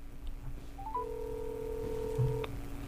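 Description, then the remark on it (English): Quick electronic dialing tones step upward as a hotline number is called to test that it works, then a steady telephone ringing tone hums for a second and a half before cutting off, heard over a low background hum. “It's ringing.”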